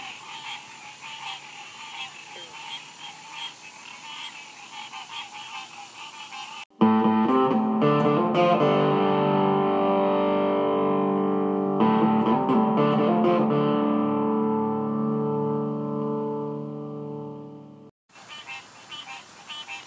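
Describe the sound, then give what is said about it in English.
A dense, steady chorus of frogs croaking together at a pond in an apartment complex, interrupted midway by a long, loud buzzing drone with a distorted, electronic quality before the frog chorus resumes. No one speaks. “I'm overlooking a pond in my apartment complex, and let the mating season or the cat calls, frog calls, whatever is going down below me, get on it.”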